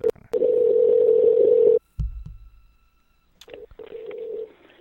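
A telephone call ringing on the line: a loud, steady ringback tone lasting over a second, a brief low clunk and pause, then a second, quieter ring. No one speaks.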